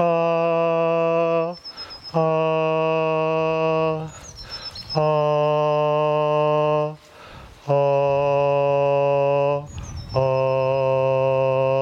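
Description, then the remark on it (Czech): A voice sings the vowel A in a vocal exercise, a series of five long, steady held tones at slightly different pitches, each sustained for about two seconds and separated by brief breathy pauses. “A na různé tón jedem.”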